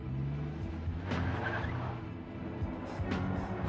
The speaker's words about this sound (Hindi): क्या बकवास गाड़ी खरीदी है? और तेज।